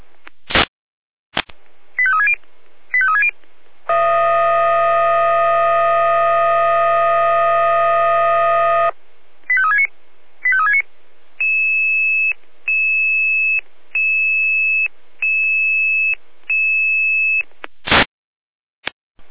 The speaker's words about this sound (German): Hier Leitstelle Jena mit Einsatzalarm.